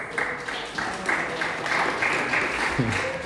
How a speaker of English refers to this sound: They just got engaged. Round of applause.